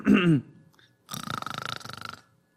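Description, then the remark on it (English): A voice imitates a pig on top of a manure pile tilting its head back and clearing its throat: a short gravelly grunt, a pause, then a longer rattling, pulsing rasp about a second long, loud and with no other talk. “The pig tilted his head back and cleared his throat.”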